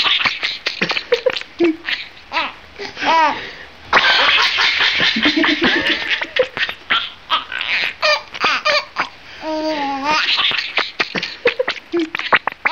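rat chirping

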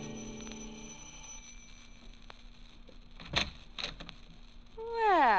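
apartment doorbell ringing

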